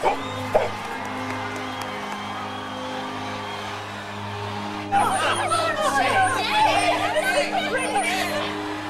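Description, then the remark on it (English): A capacity stadium crowd at a soccer match between the U.S. and Norway murmurs and chatters steadily, a dense babble of many voices that swells louder and livelier about halfway through, with scattered whoops rising from the hubbub. “The capacity crowd looks on.”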